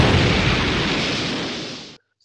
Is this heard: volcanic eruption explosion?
yes